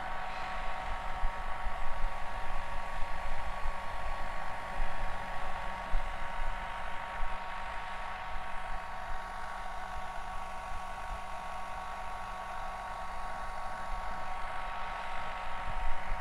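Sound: hair dryer blowing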